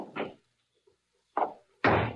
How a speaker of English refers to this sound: And stand aside while I release the brake and close the door.